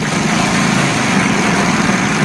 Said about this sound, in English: That sounds like the Wheel of Fortune wheel. And it landed on match game.